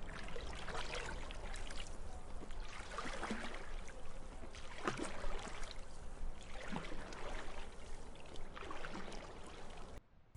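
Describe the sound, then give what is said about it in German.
Steady sloshing and splashing of water as someone swims with strong strokes through the clear water of a lake, a stroke surging through roughly every two seconds, fairly loud, no voices. “Mit kräftigen Zügen schwimme ich los, gleite durch das klare Wasser.”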